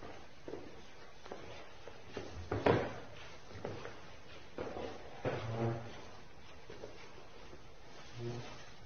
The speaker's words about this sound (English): You have to put the chairs back, I'm afraid. You can't move the chairs to resolve.